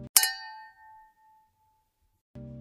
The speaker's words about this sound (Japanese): でもカチンってやったんですよ、モニターに。